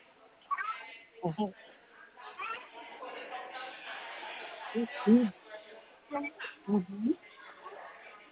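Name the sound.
cat meowing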